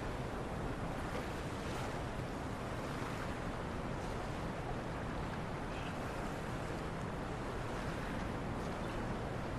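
Steady wash of lake water lapping against the shore at night, a continuous soft surge with gentle swells, with some breeze mixed in and no voices.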